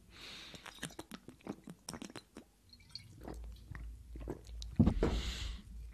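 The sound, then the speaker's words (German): Someone takes a sip of water: a string of small wet mouth clicks, then a soft low rumble and a louder gulping swallow near the end, with no talking. “Ich nehme gleich mal einen Schluck Wasser hier.”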